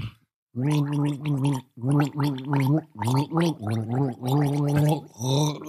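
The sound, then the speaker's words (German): Someone gargles a small sip while producing a melody, the bubbling voiced tones rising and falling in short phrases that follow the rhythm of Jingle Bells, loud and continuous for several seconds with no speech. “Mach nur einen kleinen Schluck.”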